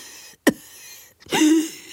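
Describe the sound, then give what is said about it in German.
Two fairly loud coughs from a person with a sore throat: a short, sharp bark first, then after a pause a longer, rougher cough with a throaty, voiced tail. “Und auch Husten.”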